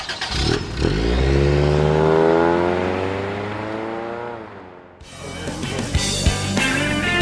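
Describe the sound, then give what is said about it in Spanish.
A blue car's engine revs up loudly, its pitch climbing then falling away as the car pulls off, followed by a burst of rattling, clattering noise. “¡Es el auto azul! ¡Suban ya!”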